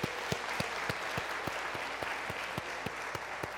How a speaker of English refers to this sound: A special word of welcome to our guests and especially to our fathers. Let's give all our fathers a big round of applause.